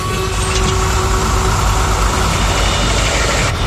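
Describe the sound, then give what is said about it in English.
A fully loaded truck's engine idles at a lake, a loud, steady low rumble with a faint tonal hum running unbroken throughout, with no voices. “there's no one around to help lighten Art's fully loaded truck”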